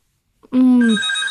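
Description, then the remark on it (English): A loud telephone ring sound effect starts abruptly after a brief silence, with a buzzy tone shifting into bright sustained harmonics, heard alone as a single short burst. “A phone call. Hang on a second. Sound effects man is really after that.”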